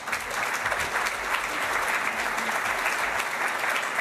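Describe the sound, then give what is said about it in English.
Steady applause from an audience welcoming a speaker on stage, a dense wash of many hands clapping at an even, fairly loud level for a few seconds with no voices over it. “welcome Jeff with a warm applause on stage.”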